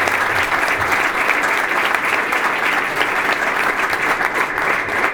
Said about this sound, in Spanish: Aplaudamos este proyecto, señor. Con tanta entrega.